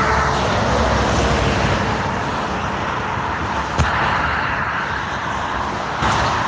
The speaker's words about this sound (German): Das sind so die Geräusche, die wir den ganzen Tag hören, wenn wir auf dem Seitenstreifen der Autobahn fahren. So hört sich's an. Es ist laut und es ist nicht ungefährlich.